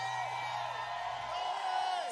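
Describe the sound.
An audience at CCI Abuja shouts and cheers to the Lord continuously, with whoops rising over a sustained roar of many voices for the whole moment.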